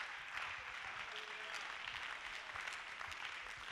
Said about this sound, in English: Let's clap your hands. Hallelujah.